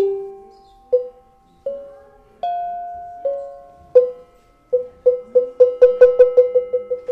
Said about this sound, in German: Kuhglocken, die eine ist die größte, danach kommen so zwei kleinere, dann kommt noch eine ganz kleine Sitze. Die werden so mit einem Filzschlägel angeschlagen, einen ganz weichen Klang. Ich finde, das klingt sehr schön.